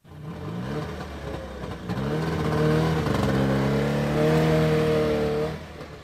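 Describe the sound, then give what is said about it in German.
A Trabant's small two-stroke car engine revs up and down repeatedly, its harmonic buzzing pitch rising and falling in loud bursts before cutting off. No one speaks. “Trabant. Eben, eindeutig.”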